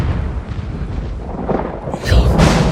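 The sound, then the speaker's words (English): A deep rumbling roar builds into a loud thunder crash in the second half as lightning flashes, with broad crackling noise spreading high and a heavy low-end boom. “Lightning flashes around the room.”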